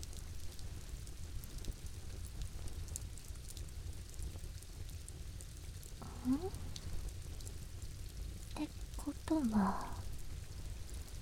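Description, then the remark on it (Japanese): Steady rain hisses evenly throughout, a constant wash of falling drops, with a few brief rising chirps or tones cutting through faintly near the end. “だってここは雨降りの国ですよ。そんな簡単に雨が止むわけないじゃないですか。”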